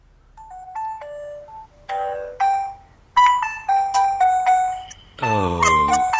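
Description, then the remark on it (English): Telephone on-hold music heard when phoning Queen's Hospital in Essex: a tinny electronic melody of chiming, doorbell-like notes playing one after another, loud, ending in a buzzy, swelling chord. No one speaks. “But ladies and gentlemen, when you phone up Queen's Hospital in Essex and you're put on hold, this is what you hear.”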